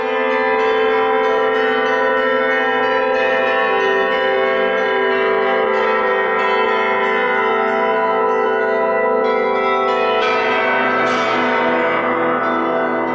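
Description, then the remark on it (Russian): Church bells of the Kolomenskoye museum, rung by its bell-ringer, ring out continuously in a dense, layered peal, their sustained overtones blending into a loud, shimmering wash with fresh strikes cutting in near the end. No voices are heard. “Александра Жихарева, звонаря музея Коломенское, колокольного мастера, изобретателя, записала Тамара Левенкова.”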